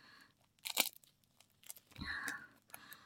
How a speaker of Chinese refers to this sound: 做什么？ 当然是用胶带把你捆起来啊。 放心，静电胶带，